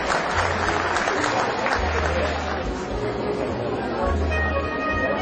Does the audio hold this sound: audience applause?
yes